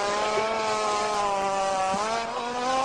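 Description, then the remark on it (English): A rhinoceros farting at a zoo: one long, loud, continuous buzzing blast lasting about three seconds, steady and droning like a revving motor, with a slight wobble in pitch and no voices. “It was a rhino farting.”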